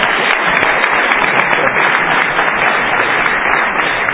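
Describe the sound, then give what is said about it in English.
A crowd at a meeting breaks into steady applause to vote by applause for a president, many hands clapping in a dense, even wash of sound that stays loud and unbroken for about four seconds, with no talking. “Great, seeing none, we will vote by applause.”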